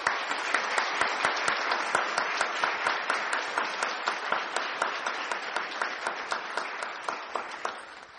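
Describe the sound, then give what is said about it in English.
A church audience applauds its graduates steadily for several seconds, a dense wash of many hands clapping with a few sharper claps standing out, holding level before easing slightly at the end. “At this time, let's give our graduates a round of applause.”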